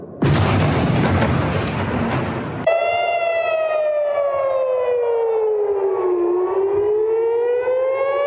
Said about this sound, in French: Toute une nuit, rythmée par les alarmes.